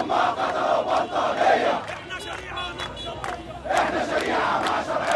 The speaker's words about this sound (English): At Cairo University, a pro-Morsi crowd praised God and chanted slogans against the military's ultimatum.